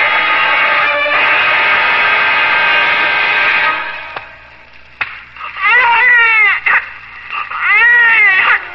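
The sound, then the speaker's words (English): A newborn baby boy, just slapped by the doctor at birth, cries loudly: one long, high, sustained wail, a brief catch of breath, then several shorter rising-and-falling bawls with a shrill, quavering pitch. “A skillful slap by the doctor, and my son was thrust into the world with a lusty cry of protest.”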